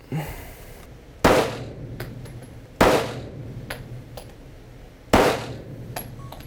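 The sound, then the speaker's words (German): Three loud, sharp gunshots ring out at uneven intervals as a shooter fires twice at the large 5 and once at the upper target, each followed by a brief echoing tail, with a few faint metallic clicks and pings in between and no talking. “Schießt 2-mal auf die 5, auf die große 5. Ja. Und einen Schuss auf den oberen Spiegel.”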